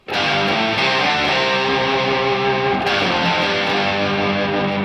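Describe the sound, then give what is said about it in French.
A heavily distorted electric guitar plays a sustained, dense riff in G minor, built on the G minor pentatonic scale in the lowest positions of the neck, at steady loudness, with a fresh attack about halfway through. No voices, just the thick, saturated guitar tone. “Et voilà ce que ça donne avec la distorsion en plus.”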